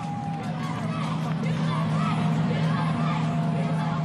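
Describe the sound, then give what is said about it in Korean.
A large crowd of citizens waving US flags roars and cheers continuously at a parade on Broadway in New York as confetti falls from high-rise buildings, a dense wall of overlapping voices with no pauses, loud, while a faint sustained tone of the crowd's horns drifts through early on. “시민들의 외치는 목소리가 가득한 브로드웨이 시가 행진은 수많은 언론사도 함께했습니다.”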